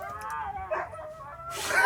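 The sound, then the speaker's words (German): Huskies howl directly behind a car in drawn-out, wavering tones, several voices overlapping, ending in a sudden burst of harsh, noisy yelping. “Die haben Huskies dabei und das hört sich ganz so an.”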